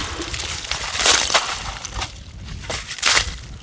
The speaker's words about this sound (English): He's clearing the ice away to remove some old scientific gear that has been in the lake for the past year.